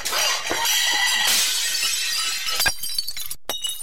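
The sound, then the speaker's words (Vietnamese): A tall stack of dishes piled in a large round-bottomed pan wobbles and topples onto a cement floor in a loud, sustained shattering of breaking ceramic, shards scattering everywhere, followed by scattered clinks and a couple of sharp final impacts. No one speaks. “Vì chất cao quá nên cái dĩa trên cùng bắt đầu làm cả chồng dĩa rung rinh theo. Vừa lúc nhìn về phía đó thì cũng là lúc chúng thi nhau đổ ào xuống nền xi măng.”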